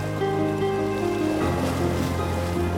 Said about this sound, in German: Schwere Wellen erheben sich haushoch und mit gewaltiger Kraft an die Felsen des Ufers zu schlagen.